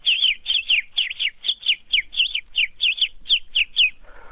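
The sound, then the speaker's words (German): Sparrows chirp in a quick, steady series of short, bright notes, about a dozen and a half in four seconds, fairly loud with no talking over them. “Und dann Spatzen, ja klar.”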